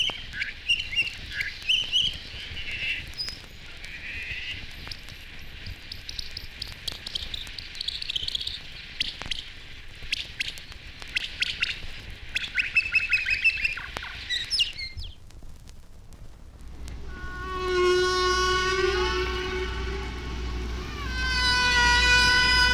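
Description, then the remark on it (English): Humpback whale song sped up 14 times, turning into rapid, chirpy, bird-like twittering and squeaks, followed by louder gliding, harmonic whistles near the end, with no talking. “This song is sped up 14 times.”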